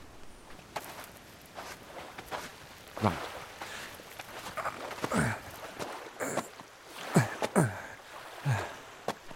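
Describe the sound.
Several heavy, uneven footsteps scuff and thud as someone climbs up onto a large boulder at the water's edge, with a brief spoken word and faint outdoor background.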